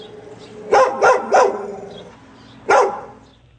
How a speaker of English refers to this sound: All right, here's the next dog sound. What's this dog talking about?